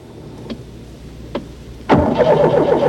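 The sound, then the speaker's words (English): A car engine cranks twice in short bursts without catching, then a third try fires and the motor roars to life, settling into a loud, rumbling run. “Please, God, please let the car start.”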